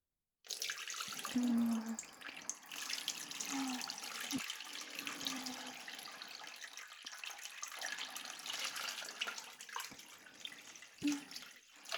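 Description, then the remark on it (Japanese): Water runs steadily from a tap for several seconds, rinsing off foam, a continuous splashing hiss with a few brief tonal gurgles and small knocks as it flows over something. “そしたら泡は水で洗い流してくね。”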